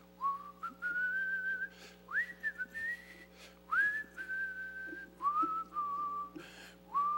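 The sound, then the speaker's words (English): A man whistles a tune in a series of clear, sustained notes that slide up and hold, broken into several short phrases over a steady low background hum. “He's a terrific whistler.”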